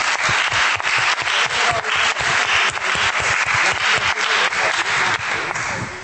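A crowd applauds steadily, a dense crackle of many hands clapping at once, loud and sustained for several seconds before tapering off slightly at the end.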